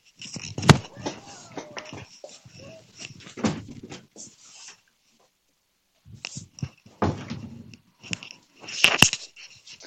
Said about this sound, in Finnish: Nyt tässä vaiheessa päästään tuon meidän kissan täältä huoneesta pois, ettei se nauhu tuossa vieressä. Mä en tiedä, tuleeko se tähän mikkiin, mutta tehdäänpä tämmöinen ihan 10 sekuntia.